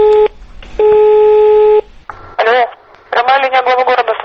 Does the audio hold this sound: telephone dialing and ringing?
yes